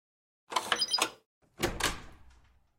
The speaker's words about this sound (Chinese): 是啊，这里就是我们的房间啊。那这是房卡，你开门吧。